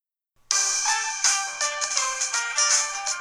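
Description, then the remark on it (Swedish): A bright, melodic electronic phone ringtone starts abruptly and plays a quick sequence of tones, loud, with no voices. “Kul att du ringde.”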